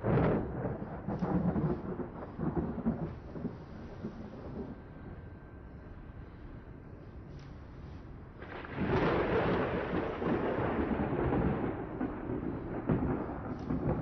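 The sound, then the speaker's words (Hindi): Steady rain hisses throughout while thunder rumbles low and heavy, swelling louder partway through and rolling on with no voices present. “लो बस इसी की कमी थी, अब बारिश भी होने लगी।”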